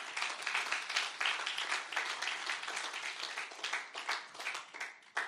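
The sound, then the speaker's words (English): An audience applauds steadily for people who raised their hands to choose Jesus, a dense wash of many hands clapping at once, sustained at a fairly even level for the full few seconds with no voices standing out. “Yep, give them a round of applause, these people.”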